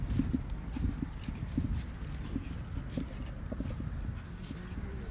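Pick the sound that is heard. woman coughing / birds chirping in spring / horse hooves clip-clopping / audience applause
horse hooves clip-clopping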